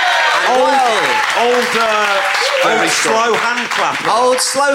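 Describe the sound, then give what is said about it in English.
An audience gives the show's host a slow hand clap, clapping slowly and steadily while voices whoop and cheer over it, a loud, continuous crowd noise throughout. “Slow hand clap”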